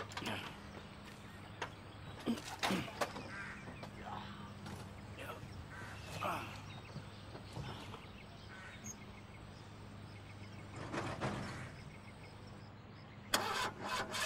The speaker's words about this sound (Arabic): بعد إذنك اطلع لفوق وشغلي السيارة شوي.